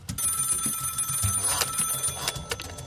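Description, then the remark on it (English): A telephone rings continuously, a steady high electronic trill held for about three seconds over a low murmuring rumble, with no voices. “And I called him, you know, like 20 times in the next week.”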